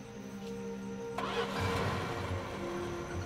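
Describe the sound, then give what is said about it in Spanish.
A car engine cranks and catches, then settles into a steady, rumbling idle with a low mechanical hum; no voices. “También se llevó su auto.”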